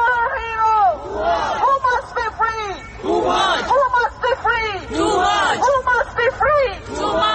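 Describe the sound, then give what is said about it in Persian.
A large protest crowd in The Hague, Netherlands, chants the name Toomaj together in loud, rhythmic bursts, demanding his release, many voices shouting in unison with short pauses between repetitions, continuous throughout. “در لاهه هلند معترضان با فریاد زدن نام توماج خواستار آزادی او شدند.”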